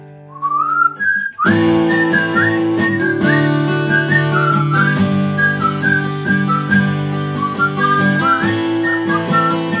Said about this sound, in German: So, und jetzt geht's mal los mit ein bisschen Pfeifen. Viel Vergnügen!